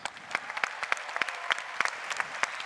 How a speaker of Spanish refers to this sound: Ahora, yo escuché que le aplaudieron más al equipo de la belleza femenina. Pero aquí también venimos representados, aplausos.